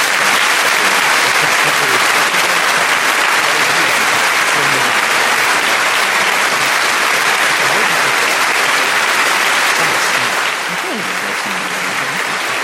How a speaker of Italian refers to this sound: io faccio così, dove... di solito quando faccio così parte l'applauso.